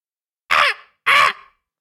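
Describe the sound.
A voice imitates a raven's caw twice, two loud, harsh, rasping calls about half a second apart, with silence around them and no talking.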